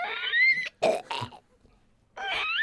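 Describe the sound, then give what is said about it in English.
Whiny, high-pitched burps: a drawn-out tonal squeal, two short rough guttural bursts, a pause, then another rising whine. Fairly loud, with no talking. “There's a clue here. It says wine burp.”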